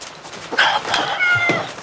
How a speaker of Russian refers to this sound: Это ваша кошка? Да, то есть нет. Она моя спутница. Она разбила один из тетушкиных бокалов.